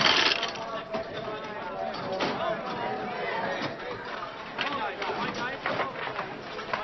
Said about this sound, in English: He starts to pull down on the lever. The wheels spin. The fruits align. Coins spill out below.